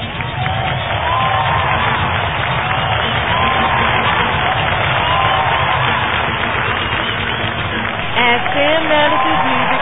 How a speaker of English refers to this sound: The crowd is going absolutely bananas for this former DAPW superstar.